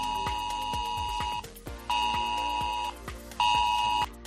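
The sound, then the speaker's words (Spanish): A loud, steady electronic alert tone sounds in three long bursts with short gaps, a harsh pitched drone over repeated low thumping beats: a test drill of the S-Alert population alert system sent to mobile phones of residents of Sevilla Este and Torreblanca in Seville, Spain. “Bueno, pues este sonido teóricamente ha tenido que llegar a los terminales móviles de vecinos de Sevilla Este y de Torreblanca.”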